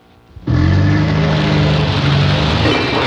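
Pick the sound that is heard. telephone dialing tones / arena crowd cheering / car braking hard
car braking hard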